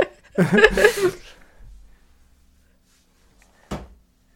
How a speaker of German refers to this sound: Genau, aber öffnet sich eine Tür, genau, nämlich diese. Genau, die Pforte zum Glück.